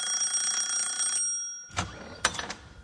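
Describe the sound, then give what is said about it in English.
A house doorbell, rung by salesmen in a comedy game round, rings with a steady, bright, high-pitched tone for about a second, then fades out, followed by a few clattering thumps and rattles. No one speaks. “Okay, Graham and Marcus, I'd like you to be the salesman in this round, while Joe and Tony will be the owners of the house on whose doorbell salesman Graham and Marcus are about to ring.”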